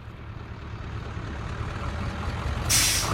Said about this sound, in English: Behind him, a bus pulls away.